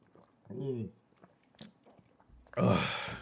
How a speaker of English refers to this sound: Now I get to have my awkward pauses while I drink some water here because it's just me here.